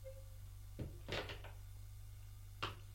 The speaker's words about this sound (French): La porte s'ouvre.